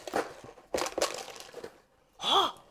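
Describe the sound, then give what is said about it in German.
A bag of cookies crinkles and rustles in several quick bursts over about two seconds, followed after a brief pause by a short voiced exclamation. “Eine Tüte Kekse.”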